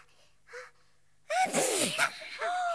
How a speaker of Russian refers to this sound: Он чихнул, девочки. Очнулся.